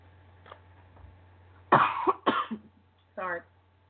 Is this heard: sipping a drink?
no